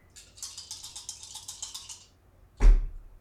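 Three dice rattle briskly for about two seconds, as if shaken in a cup, then land with a sharp clatter on a hard surface. Clear, with no talking.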